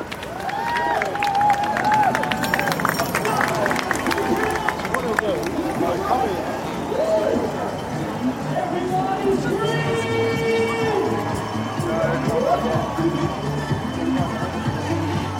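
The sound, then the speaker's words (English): A crowd of marathon spectators on Tower Bridge, halfway along the route where charities fly their flags, claps and cheers as runners pass, with scattered shouts and many overlapping voices, steady and lively throughout. “I stood and clapped halfway along the route on Tower Bridge, where loads of charities fly their flags, including WizKids.”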